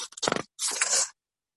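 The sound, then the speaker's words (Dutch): Papers being shuffled as a speaker at a meeting gathers their papers for the introduction to agenda item 12, the proposed amendment of the Hilversum local bylaw (APV): a brief crinkly rustle, then a longer, brighter swish of sheets sliding against each other, with no voices. “Die zal ik even erbij pakken. Al mijn papieren.”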